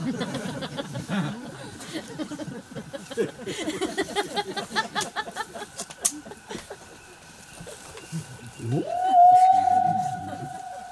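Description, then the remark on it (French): A human voice imitates a whale call with a long, loud, rising moaning tone near the end, following several seconds of busy, murmuring background chatter. “Il dit, vous appelez les baleines?”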